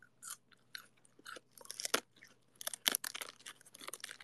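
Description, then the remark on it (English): Crisp crunching as a cold, crispy head of lettuce is chewed, with repeated rapid bursts of wet crackling bites that grow denser and louder toward the end; no talking. “I'm eating lettuce.”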